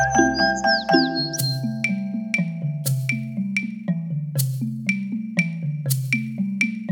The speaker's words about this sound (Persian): بلبل میگه.